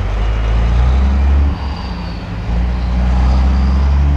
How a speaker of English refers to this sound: traffic jams of pickups and tanker trucks traveling back and forth to the thousands of new wells that were drilled. Traffic is still the first thing many people mention.